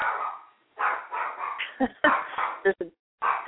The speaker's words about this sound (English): There's a dog barking somewhere.